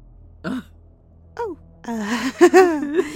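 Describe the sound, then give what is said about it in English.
A voice imitates a Kirin breathing heavily: two short, raspy, voiced breaths, then a longer, louder run of groaning, husky breaths. “Standing right behind you all, and it's just breathing heavily.”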